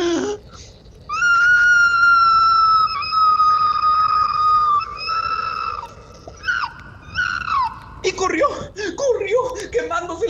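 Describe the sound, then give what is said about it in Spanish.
A human voice imitates an opossum's loud scream of pain: one long, shrill, sustained wail, followed by several shorter, broken cries, loud. “Y el tlacuache pegó un fuerte grito de dolor, más o menos así.”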